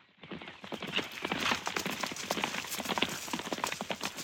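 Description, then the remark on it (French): Horse hooves clip-clop steadily, a quick regular rhythm of sharp knocks over a faint continuous background hiss, as Sir Richard arrives on horseback in the forest. “Sir Richard descend de son cheval et se jette dans les bras de Robin.”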